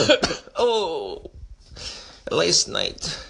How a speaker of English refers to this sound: And I'm coughing now because, we won't go into that.